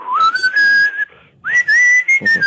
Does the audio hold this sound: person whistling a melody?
yes